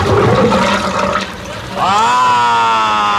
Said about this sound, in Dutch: Ah, het water is weggelopen, zeg. Door het stoppie heen, zeg.